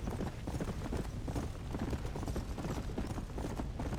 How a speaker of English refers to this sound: horses! Madness!